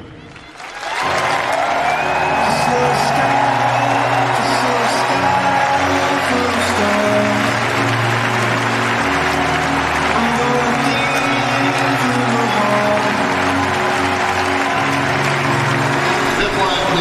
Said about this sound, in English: We ask you to stand if you are able and cheer as we raise a banner in his memory and for the legacy of number 13.